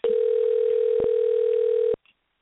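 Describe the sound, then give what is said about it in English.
A steady telephone dial tone, heard while redialing a dropped call, hums at constant pitch for about two seconds, with a brief click partway through, then cuts off abruptly into near silence. “Yes, let me see if I can get her back on. Her phone, it dropped.”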